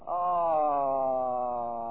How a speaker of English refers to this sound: Close your eyes. Look up and have a good yawn.